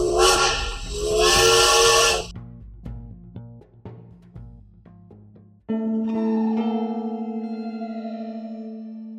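A loud, shrill steam train whistle on a train travelling from Prague to Bratislava blasts for about two seconds over a wash of hissing steam, followed by quieter scattered tones and then a long, steady lower whistle that slowly fades.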